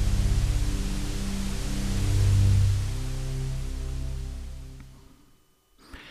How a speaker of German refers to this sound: Durch den leichten Filter wird es dann weniger scharf und auch beruhigender. Lass mir gerne mal einen Kommentar dazu da, wie dieses weiße Rauschen jetzt auch auf dich wirkt.